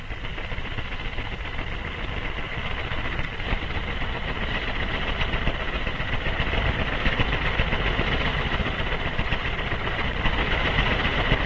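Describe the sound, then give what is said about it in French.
An IBM 1401 computer's chain printer runs continuously, printing 600 lines of 100 or 132 characters a minute with an endless type chain moving at high speed in front of the paper: a loud, steady mechanical roar with a rapid, buzzing clatter that never pauses over the whole stretch. No one speaks. “Voici maintenant l'unité d'impression de l'ordinateur 1401. Elle imprime 600 lignes de 100 ou 132 caractères à la minute.”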